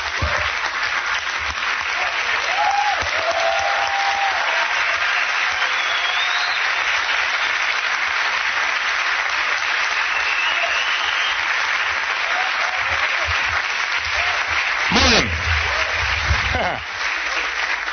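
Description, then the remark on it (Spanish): A standing audience applauds the Lord steadily for about eighteen seconds, a dense, even wash of many hands clapping, with faint cheers and whoops rising above it and a couple of sharp louder claps near the end. “Nos ponemos de pie, le damos un aplauso al Señor, al Rey de Reyes.”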